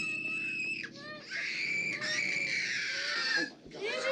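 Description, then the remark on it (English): Children scream loudly and almost without pause in a movie scene, shrill overlapping cries that break off briefly twice before surging again, intense, after a brick is thrown through Ren's family's window. “That night, some of Chuck's goons heave a brick through Ren's family's window, and the children's screams are truly terrifying.”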